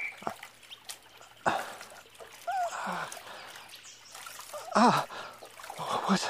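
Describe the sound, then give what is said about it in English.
Water splashes and trickles in short, irregular bursts as someone leans forward and washes their eyes in a pool, with a sharp gasp or breathy vocal sounds mixed in. “Lean forward, then. The water is before thee.”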